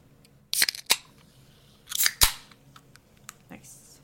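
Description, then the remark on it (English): A beverage being opened: a cluster of sharp, crisp clicks and crackles, then a second louder burst about a second and a half later, with faint background murmur between. “I'm going to open this beverage.”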